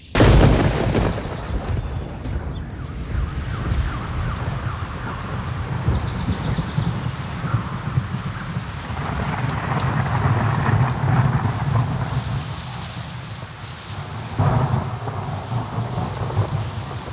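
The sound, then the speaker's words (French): A heavy rain shower pours down steadily, a dense hiss of drops with deep rumbles of thunder beneath, continuing without pause for the whole stretch. “La pluie a fait couler le maquillage de Madame Peck.”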